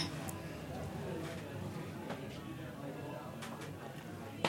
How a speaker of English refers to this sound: So kampai is actually, it's the Japanese version of cheers, and it means empty your glass. So why don't we have a kampai?